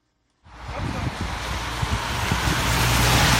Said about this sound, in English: Cars whip quickly around the curvy mountain roads as rain falls on a chilly day in Ventimiglia, Italy. We are at the country's border with France.